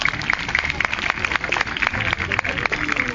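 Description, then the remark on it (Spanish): A crowd claps steadily for a few seconds to send off Bruma, an owl, after its flight display: the sharp hand claps blend into a dense, continuous wash of applause with a bit of murmuring underneath. “Es por ello que hemos podido contemplar el vuelo de Bruma, nuestra lechuza, a la que vamos a despedir con un fuerte aplauso.”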